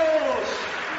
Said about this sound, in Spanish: Esta ovación de toda la marea roja es para ti, José Luis. ¡Ánimo!